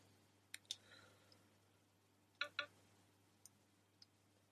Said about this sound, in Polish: wejście dla karty SIM i przy okazji wejście dla tego właśnie kluczyka, który jak trzymamy telefon ekranem do góry, to po prawej stronie jest właśnie taki otwór, do którego należy wsunąć ten kluczyk i zdaje się należy tam nacisnąć.